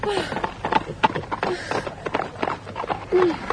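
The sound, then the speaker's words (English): Busy clatter of many hooves on hard ground, irregular and overlapping, as a horse named Poncho is held by the bridle while a drove of cattle passes, with a few short, low animal calls mixed into the steady shuffle. “I've got your horse's bridle here. We'll be through the drove.”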